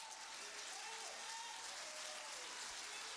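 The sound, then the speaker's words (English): A crowd claps steadily together, a dense, continuous wash of many hands that holds the same level throughout, with faint voices murmuring underneath. “Clap your hands, all you people. Act like the spell is between your hands. Clap your hands.”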